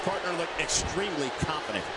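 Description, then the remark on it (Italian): John Big Show Layfield is slammed onto the ring mat by a suplex from Rusev with a heavy, booming thud, heard under a man's steady commentary voice with crowd noise in the background. “Suplex impressionante da parte di Rusev.”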